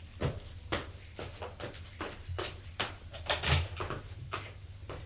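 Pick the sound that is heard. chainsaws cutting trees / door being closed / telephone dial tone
door being closed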